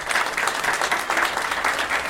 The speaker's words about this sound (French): Et aujourd'hui, à l'antenne, il y a le présentateur journaliste de France Télévision, France Info. On peut applaudir M. Jamel Mazi, s'il vous plaît.